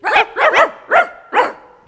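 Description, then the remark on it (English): Several dogs give a quick run of sharp, loud barks on the command 'Speak', about five yaps in uneven bursts with short pauses between, and no talking. “Aren't they smart? They're dogs.”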